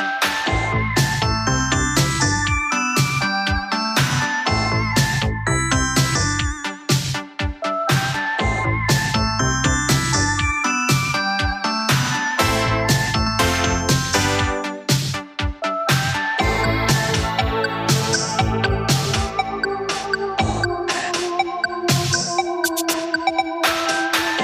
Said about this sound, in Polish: Zazwyczaj ten sygnał na antenie Radia Poznań pojawia się w środowe wieczory po godzinie 20, ale kalendarz pod koniec 2025 roku tak się ułożył, że najpierw w środę wypadała Wigilia, a później wieczór sylwestrowy.